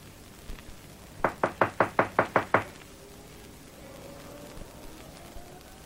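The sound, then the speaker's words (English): A firm run of eight quick knocks on the wooden front door of a house, evenly spaced, followed by a quiet pause with faint background hum. “Knock again. Louder.”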